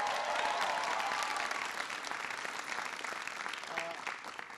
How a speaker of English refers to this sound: It's good to see Congressman Bill Keating here. Give Bill a big round of applause.